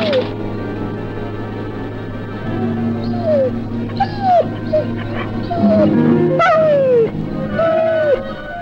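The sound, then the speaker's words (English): A dog whimpers and whines in a series of short, high, falling cries, fairly loud, repeating every second or so over a steady low background hum. “A frightened boy and his courageous dog.”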